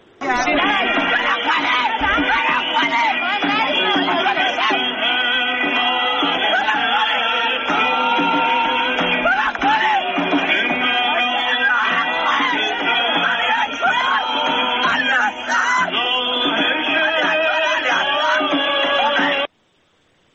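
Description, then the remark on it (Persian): A large crowd of mourners at a funeral in Iran for a man killed amid protests, his mother among them, wails and shouts together in a loud, continuous outpouring of grief, many voices overlapping for nearly twenty seconds before it cuts off abruptly. “این صدای داد و فریاد، این صدای عزا، این زخم و درد، صدایی که ما این روزها زیاد میشنویم از جاهای ایران.”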